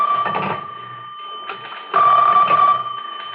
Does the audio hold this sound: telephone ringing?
yes